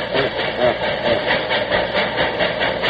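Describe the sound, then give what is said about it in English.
An 1855 locomotive labors up a grade with a heavy, steady chugging rhythm over a dense rumble and hiss. It is loud, with no voices. “Oh, listen to it. Now she's going up a grade.”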